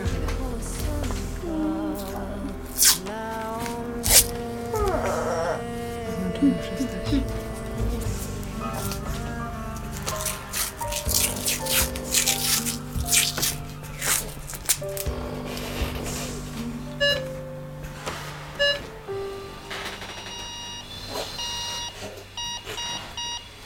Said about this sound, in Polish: Po raz kolejny słyszymy utwór, który powstał na bazie rytmu wyznaczanego przez respirator, przez pulsoksymetr. Praca maszyny się urywa, a oddech zostaje.